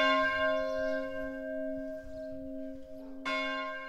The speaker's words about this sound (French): Écoutez, les cloches dans un village, ça fait partie du village. Il faut dire ce qui est.